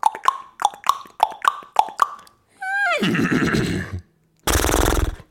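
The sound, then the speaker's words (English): A man's voice imitates a horse: six quick, evenly spaced tongue clicks like hooves, then a loud whinny that drops in pitch into a breathy rasp, and a final sharp snort. “I plan to whistle you a ditty, then hum you a tune, but my son Grant insisted I do a horse impression instead.”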